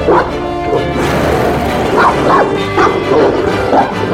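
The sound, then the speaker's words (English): A dog, Pepper, snarls and barks fiercely while fighting a dragon on a mountain, with repeated sharp bark bursts over a constant rough, growling, roaring din. Loud and continuous throughout, with no talking. “Clara heard fierce snarling, roaring, and fighting.”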